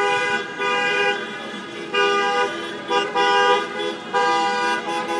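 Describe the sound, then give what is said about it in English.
A string of car horns honks repeatedly as a series of dressed-up wedding cars passes by after a wedding, overlapping blasts of steady, bright tones rising and falling in loudness over a low rumble of traffic. “So there's a whole series of cars all dressed up because somebody's just got married.”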